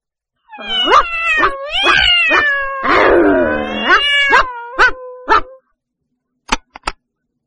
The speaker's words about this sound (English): I can hear a dog. And a cat.